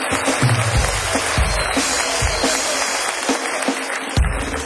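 An audience applauds steadily, a dense wash of clapping at an even volume, with a few low thumps and a hint of cheering mixed in, and no speech over it.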